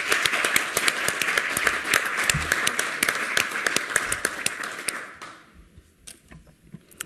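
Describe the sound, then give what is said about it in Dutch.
People at a municipal council meeting applaud the outgoing youth council members: dense overlapping claps sustained for about five seconds before thinning out to a few scattered claps and fading. “En ja, ik vind wel dat jullie een applaus verdienen vanaf deze kant.”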